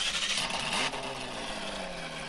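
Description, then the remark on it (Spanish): The engine of a 2024 Mazda 2 compact car revs with a steady roar, its pitch rising and then easing back down over a couple of seconds, beneath a bright hiss and with no voices. “Ha llegado el mejor de los autos compactos a nuestro país, el nuevo Mazda 2 2024, que llega en dos versiones, sedán y hatchback.”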